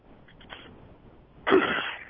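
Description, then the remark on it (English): A single harsh cough bursts out near the end, fairly loud, after a moment of quiet with only faint breathy noises; nobody speaks. “Oh, I hear a cough.”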